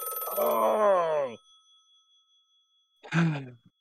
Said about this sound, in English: I don't even know which phone is this. I thought we've gone through them all. I'm just going to pick it up and hang it up.